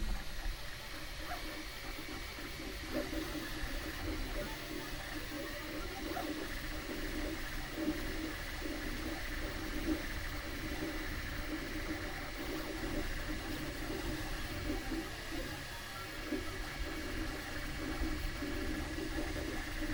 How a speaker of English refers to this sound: The stereo panning probably won't be as good as we'd like, but it is what it is, and so we can hear the 3D printer. The fan noise of the 3D printer, unfortunately, is uncontrollable, so we get what we get.